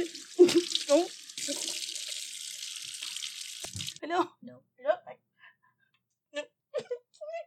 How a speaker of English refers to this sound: And who wants to see somebody swish a glass of water around? Nobody.